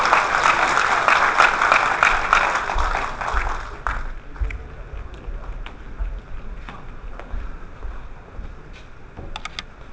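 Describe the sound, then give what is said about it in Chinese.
Dense audience applause for a student's performance of Taiping Geci, a traditional Chinese crosstalk song: loud and steady for about four seconds, then thinning into scattered, uneven claps that trail off with a few brief bursts near the end. “我替学生谢谢大家的掌声。”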